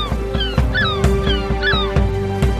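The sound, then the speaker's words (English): A bird honks and squawks in a few short, wavering calls as it makes off with a shoe, over a steady, rhythmic musical backing with regular thumping beats. Nobody speaks. “Give me my other shoe back! Don't you... bird.”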